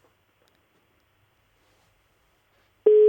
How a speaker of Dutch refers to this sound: De telefoon gaat over. Nou, spannend.